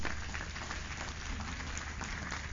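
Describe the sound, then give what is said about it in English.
An audience breaks into sustained applause, many hands clapping together in a dense, even wash of sound that holds steady for a few seconds without any speech. “Give a Lord a clap offering, somebody.”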